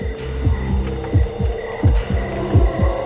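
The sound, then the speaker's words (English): A heartbeat thumps in steady lub-dub pairs, about four double beats, deep, over a constant low droning hum. No one speaks. “It was odd, even with my heart beating like that.”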